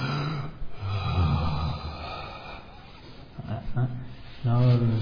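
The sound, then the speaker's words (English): Someone takes exaggerated, forced breaths in and out, demonstrating breathing in meditation, several long drawn-out pushes of air with a husky, partly voiced edge, like a voice acting out heavy breathing. “So it says you sit down, breathing in a long breath, breathing out a long breath, breathing in a short breath, breathing out a short breath.”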